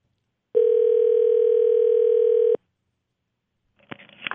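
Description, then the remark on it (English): A telephone dial tone hums steadily for about two seconds at a constant mid pitch while a call is placed to Matt Stoltz, the voice of the Red Wolves, then cuts off into silence, then a brief crackly burst of line noise follows. “Let's call the voice of the Red Wolves, Matt Stoltz.”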